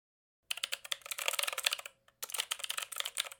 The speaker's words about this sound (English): Keyboard smash.